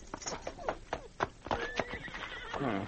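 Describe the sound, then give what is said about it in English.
A horse grazing nearby whinnies with a high, wavering neigh that rises and falls, along with a few hoof clops and snorts, clear with no one talking. “as they rounded a bend in the trail, the Mountie saw a figure lying on the ground and a horse grazing nearby.”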